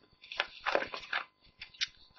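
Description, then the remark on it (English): Rustling and shuffling of papers, a few irregular crinkly bursts over about two seconds, fairly quiet, with no one speaking. “You'll have to excuse my shuffling.”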